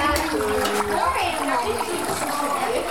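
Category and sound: nature, waterfall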